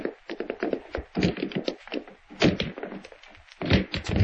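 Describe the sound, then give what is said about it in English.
A sheriff batters and forces in a wooden door, with a rapid series of heavy thunks and splintering cracks, some hits louder than others, running without a pause for about four seconds. “Break the door down, Sheriff.”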